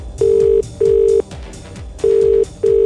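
A phone line ringing out before a radio show's call to DJ Ben Long of the Space DJs, London, connects: a steady tone in paired bursts, two short rings, a pause, then two more, with faint music running underneath.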